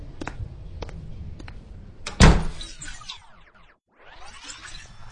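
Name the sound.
door closing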